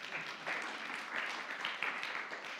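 A church audience applauds one of its preachers with steady, dense clapping that holds at an even level for a few seconds, the many hands blending into a continuous patter with no voices on top.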